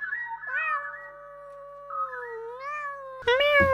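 A cat meows in a long, drawn-out, wavering yowl, rising and falling in pitch, ending with a louder, harsher burst. Clear, with no talking.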